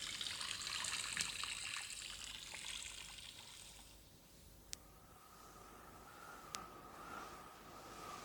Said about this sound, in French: si vous voulez savoir ce qu'ils dirent, allez le demander aux sources bavardes qui courent invisibles dans la mousse.